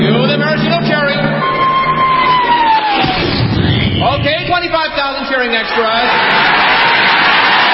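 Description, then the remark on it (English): A huge crowd of 25,000 extras cheers and roars loudly and continuously as a 10-ton maraschino cherry is dropped into whipped cream, with yells and whoops rising out of the dense wall of voices. A falling whistle-like tone and a low thump come early on. “Then the Royal Canadian Air Force will fly overhead towing a 10-ton maraschino cherry, which will be dropped into the whipped cream for the cheering of 25,000 extras.”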